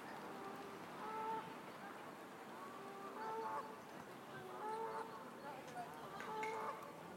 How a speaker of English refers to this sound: Now, audio boo, you'll definitely be able to hear those geese.